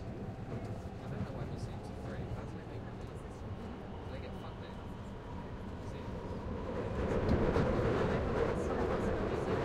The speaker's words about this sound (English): This is Warren Street. Change here for the Northern Line. Exit here for University College Hospital. This is a Victoria Line train to... Please stand clear of the closing doors.